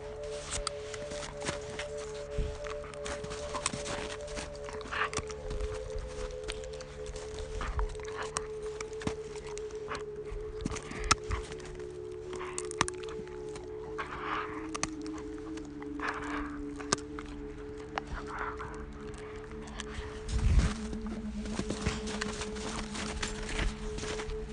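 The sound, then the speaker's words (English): Dash the dog crunches and gnaws on a stick outdoors during a snowy walk, with irregular sharp cracks and snaps over a steady low hum. No one speaks. “Let's hear Dash crunch the stick”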